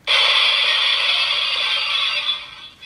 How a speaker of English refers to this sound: This one is Glass Breaking.